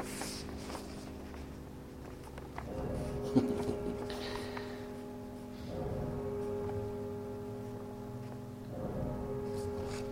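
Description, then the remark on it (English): A deep bell tolls slowly, struck about every three seconds, each stroke leaving a long humming resonance that lingers into the next. No voices are heard. “Bells tolling.”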